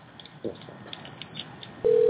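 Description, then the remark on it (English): A phone-line ringing tone starts near the end: a steady, fairly loud electronic tone heard through a narrow telephone connection, after a short stretch of quiet line hiss. “Is it ringing?”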